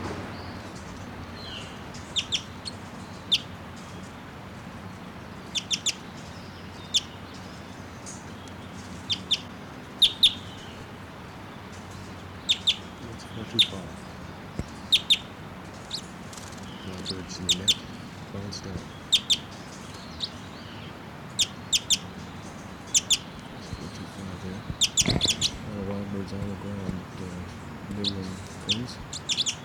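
wild bird calling

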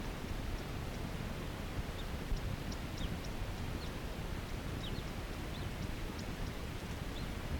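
male crossbill calling

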